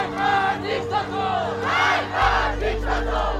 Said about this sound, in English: In the capital, Tehran, demonstrators chanted, "Death to the dictator."